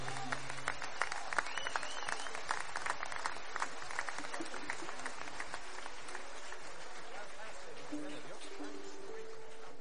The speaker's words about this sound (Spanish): Aplauso para ustedes.